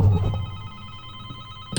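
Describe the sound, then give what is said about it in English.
A telephone rings steadily, its bright electronic tone sustained through the moment at a moderate volume, with a brief burst of noise right at the end and no voices. “Oh, sounds as if we're getting a phone call.”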